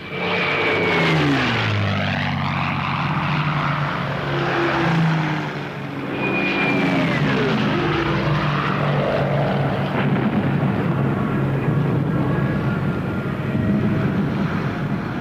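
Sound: propeller warplanes flying overhead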